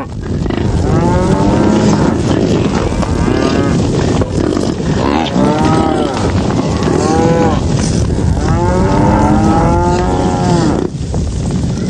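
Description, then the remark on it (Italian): A herd of cattle stampeding through a construction site: many overlapping moos rise and fall throughout, loud and continuous over a steady rumbling, churning din, with no voices speaking. “La mandria non voleva intendere di fermare la propria catastrofica borsa attraverso il cantiere.”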